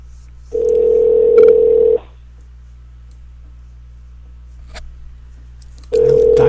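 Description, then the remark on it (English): A steady telephone dial tone hums for about a second and a half, then a quiet pause with a faint click of a key press before the tone returns, as a guest is dialed on the Green Guy and Jim radio show. No one speaks. “Dialing.”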